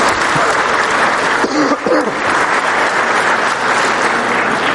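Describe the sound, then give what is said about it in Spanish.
Steady, dense applause from an audience at the mention of Saint Catherine of Siena, loud and sustained throughout, with a brief voice rising over the clapping partway through. “Le mostraba y ella aplaude. Usted es la única que aplaude. Yo también aplaudo.”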